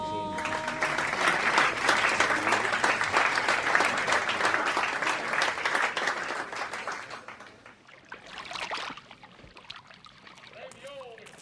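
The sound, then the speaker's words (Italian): A theatre audience applauds in a dense, steady burst of clapping that holds strong for several seconds, then thins and fades out, leaving scattered murmurs and a few stray sounds. “E applaude come che ce vuol,”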